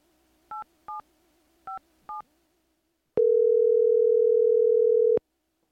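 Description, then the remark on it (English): Four short, evenly spaced telephone keypad beeps as someone dials to call a polar bear expert, followed by a steady dial tone that holds for about two seconds before cutting off. Clear, with no voices. “Before the break, I was just about to pick up the phone to call a real polar bear expert.”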